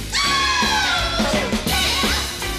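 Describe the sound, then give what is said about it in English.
A sustained, raw vocal scream from a rock song recording, recorded in a single day in LA, slowly slides downward in pitch, sung over loud, dense rock music with heavy drums and distorted guitars, all at full volume for a couple of seconds. “Even the scream.”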